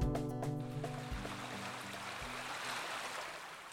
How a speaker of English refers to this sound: The Roaring Fork River through Aspen is surging as the snow melts in the high mountains. And what Valley resident doesn't love the river right now?